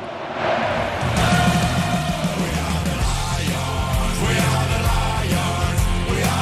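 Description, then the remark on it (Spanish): A large football stadium crowd roars and chants the home goalkeeper's name in unison after a save, during a match against Atlético, a dense, sustained wall of voices with rhythmic rising shouts, loud and continuous throughout. “A mano cambiada, gritos de Julen”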